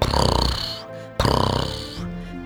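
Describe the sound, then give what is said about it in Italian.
A voice imitates a cat's purr with two long, rattling, pulsing breaths, each a low fluttering buzz that fades before the next begins. No words are spoken. “Sapete come fanno i gatti a fare le fusa?”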